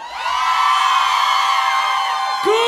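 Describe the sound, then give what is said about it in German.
A crowd of women in a stage show audience screams loudly and shrilly in unison on cue after a count to three, a sustained high-pitched wall of sound lasting a couple of seconds before cutting off abruptly. “Können wir mal die Frauen laut schreien hören, ganz mal, ganz kurz.”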